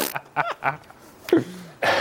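A few short, breathy throat and nasal noises, then a loud, rushing burst of air as a nose is blown forcefully at the end.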